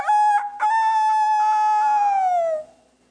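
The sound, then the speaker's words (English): A rooster crows once, loud, a long bright cock-a-doodle-doo that holds steady for a couple of seconds before dropping off at the end, with no other sounds around it. “I remember the man said, before the rooster crow, you will deny me 3 times.”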